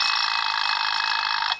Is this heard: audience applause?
no